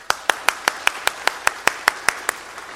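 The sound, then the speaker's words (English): A church audience claps together before the sermon in a steady, even rhythm, about a dozen sharp, crisp claps in quick succession with no voices over them. “I don't often get an applause before I preach, but I receive that.”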